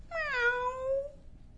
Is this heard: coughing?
no